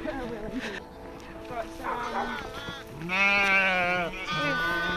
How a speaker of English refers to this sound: We've only 17 sheep. Right. But they've all either got lambs on them or they're about to have lambs.